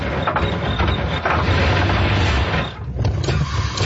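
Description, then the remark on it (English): A car engine with engine trouble sputters and strains loudly, its rough, uneven roar briefly dropping out near the end before catching again. No one speaks. “Engine trouble.”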